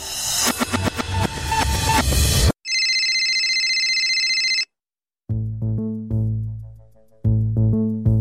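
A mobile phone ringtone plays loud: a brief noisy burst, then a sustained bright electronic tone, a short pause, and a repeating melodic jingle of low synth notes.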